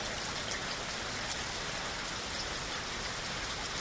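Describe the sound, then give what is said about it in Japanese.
Steady rain falls all around in a forest, a dense, even hiss of drops pattering on flowers, leaves and ground, with no voices and no breaks in the downpour. “道中、彼らは雨に濡れた花や葉っぱを眺め、雨音を聞きながら森を歩きました。”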